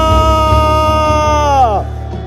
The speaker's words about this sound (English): Can you give him one more shout of hallelujah?